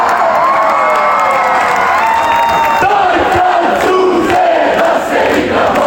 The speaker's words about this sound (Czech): Puni glavni zagrebački trg, hrvatske zastave, pjevanje, navijanje, skandiranje. Mala nacija s dva velika sportska uspjeha i dočeka. Prvo srebrni vatreni, a sada zlatni tenisači.